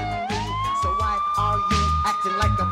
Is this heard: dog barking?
no